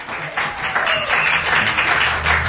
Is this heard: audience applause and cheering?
yes